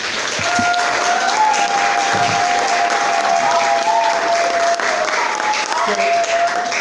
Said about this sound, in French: Je voudrais, avant de l'introduire, qu'on applaudisse très fort pour la sénatrice, s'il vous plaît.